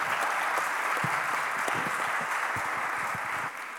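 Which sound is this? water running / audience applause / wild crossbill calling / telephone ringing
audience applause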